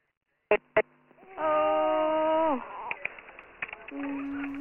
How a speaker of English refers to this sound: She's very, you know, I can hear the child crying, I can hear her upset about it, and, yeah, they're in unison with being upset here, but we'll be with them soon. It's crying well, it's getting good air in,